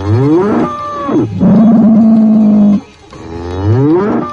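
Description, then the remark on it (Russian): A bull roars three times in quick succession, each deep, drawn-out bellow loud, the middle one longest and steadiest, with no voices present. “Гибелью грозили его огромные острые рога, а от его рева все вокруг дрожало.”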